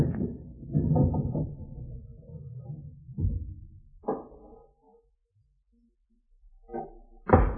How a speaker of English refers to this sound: Listen. Someone's forcing the window.